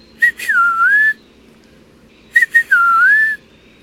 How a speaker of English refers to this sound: The eastern peewee has a catchy tune, too. Pretty much whistling out its name, peewee. A bit harder to imitate, though.